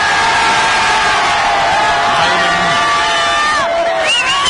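A loud crowd of people in Popayán cheers and shouts continuously during the program El Tren de la Tarde, many voices blending into a dense roar with rising whoops and calls layered on top throughout.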